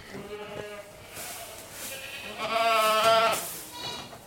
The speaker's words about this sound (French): Regarde, il y a même des bébés chèvres.